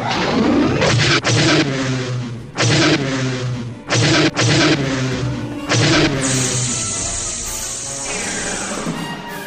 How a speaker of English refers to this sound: Ion cannons. Charged to 50%. Ion cannons, open fire.